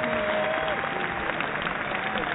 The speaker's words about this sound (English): Round of applause.